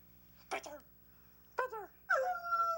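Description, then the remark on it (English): A hound dog howls, recorded and sent as a text message by the owner's son: two short, wavering yowls, then a long, sustained howl that holds steady. No talking is heard. “Nope, now it's either a dog howling or it's ha-ha.”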